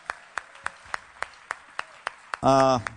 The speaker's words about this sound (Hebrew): ההפקה, תנו לו כפיים, באמת, בהתנדבות מלאה.